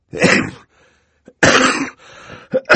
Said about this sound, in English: As Violet spoke, Mr. Poe reached into his pocket for his handkerchief, and, covering his mouth, coughed many, many times into it. He coughed so loudly that Violet could not be certain he had heard her.